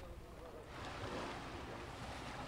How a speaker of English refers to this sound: I'm standing in the future right now. Shallow water laps at my feet. I'm in the Maldives, a group of nearly 1,200 coral islands in the Indian Ocean off the coast of Sri Lanka.